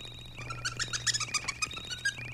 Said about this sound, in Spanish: Van volando y mandando señales. Pues claro, esos son los que salen con la boca abierta en todas las fotos. El sonido de estos murciélagos se parece a un chiflidito.